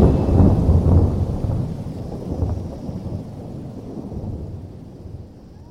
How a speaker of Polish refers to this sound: Z oddali zagrzmiał. Zrywający się wicher i szybko czerniejące niebo zwiastowały nadciągającą burzę.